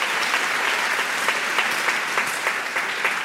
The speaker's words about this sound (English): Yeah, that deserves applause.